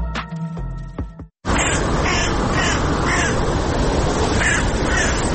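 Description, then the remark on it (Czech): A crow caws repeatedly, harsh rasping calls spaced a second or so apart over a steady wash of outdoor noise, following a brief tonal musical fade and short silence. “Nijem svaku vrana, svaka loša znaka.”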